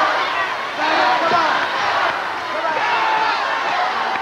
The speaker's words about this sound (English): capacity crowd on hand, trying to get the Yellow Dog back into it. I have to say the fans have definitely been supportive.